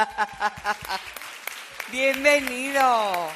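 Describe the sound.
An audience claps in a loose, rhythmic burst of sharp individual handclaps, then a voice calls out in a long, rising and falling cheer while scattered claps continue underneath.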